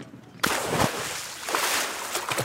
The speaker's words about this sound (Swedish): Han kränger på sig sina badbyxor. Sen springer han ut på bryggan och kastar sig i vattnet.